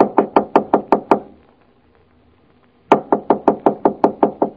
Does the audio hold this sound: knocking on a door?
yes